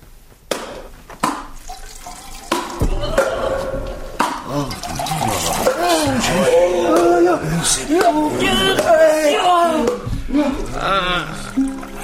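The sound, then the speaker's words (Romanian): Liquid pours and gurgles steadily for several seconds, fairly loud, after a few sharp pops at the start as bottle corks are opened, with voices murmuring alongside. “Acum deschideți dopurile și vă desfătați.”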